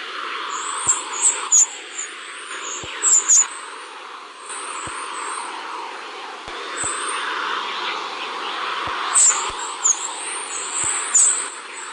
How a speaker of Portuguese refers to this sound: Da onde vem esse som que acabamos de ouvir? De uma manhã de domingo cheia de passarinhos? Por mais incrível que pareça, esse som, embora lembre aves, é causado por elétrons de alta energia interagindo com outro guardião da vida terrestre